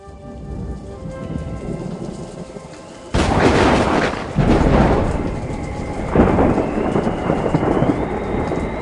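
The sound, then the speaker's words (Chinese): A violent storm at sea erupts after a quieter, droning opening: loud, roaring surges of strong wind and crashing waves tossing a boat back and forth hit in heavy surges, continuous, with rumbling bursts like thunder. “起了狂风，波浪清洁，船的本波浪大刀往来往去。”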